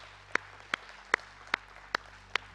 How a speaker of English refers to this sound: Come on, everybody say amen. Amen, amen, amen, amen. Let's clap our hands towards God.